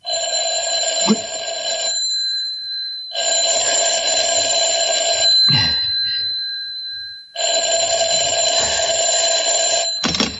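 A telephone rings loudly in three long electronic bursts separated by brief pauses. No one speaks.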